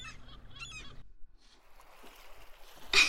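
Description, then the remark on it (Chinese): Gull-like honking calls open the scene at the seaside, then a soft watery hush, ending in one loud burst of water being splashed at someone in the shallow sea water. “别往我身上泼水，讨厌！”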